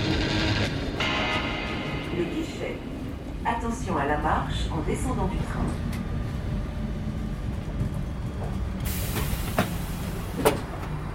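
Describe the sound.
Inside a suburban commuter train on the move: a steady low rumble and rattle throughout, faint muffled voices in the carriage, and a burst of hissing toward the end. It is an RER line across the Paris region, running from Saclay to Aulnay-sous-Bois.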